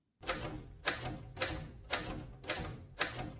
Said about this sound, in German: damit ich nicht einfach, wie es mir gerade entsprechen würde, mit der Schreibmaschine immer den gleichen Buchstaben auf das Papier klopfe.